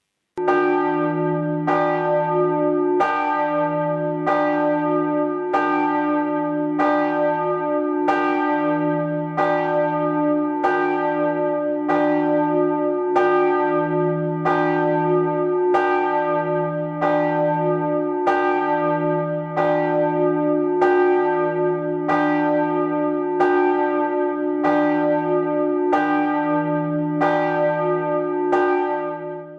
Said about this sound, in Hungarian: Most a Csákvári Református Templomnak a harangját, nagy harangját fogjuk hallani, ami 2013-ban készült, tehát egy 13-14 éves harangot, 1100 kg-os és D1 alaphangú